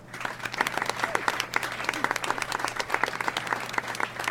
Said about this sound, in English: So, without any further ado, I'd like you to give a big round of applause and stay wide awake for Professor Manson.